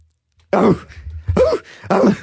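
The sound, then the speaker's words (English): A person imitates a dog barking with three loud, rough vocal barks, each a short rising-then-falling yelp, separated by brief pauses. “Do a dog bark.”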